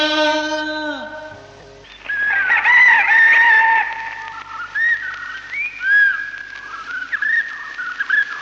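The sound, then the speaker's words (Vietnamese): A rooster's crow fades out in a falling tail at the start, then bright, warbling bird-like calls carry on steadily and fairly loud, with no voices. “Tiểu thơ, tiểu thơ, gà đã rổ cánh năm”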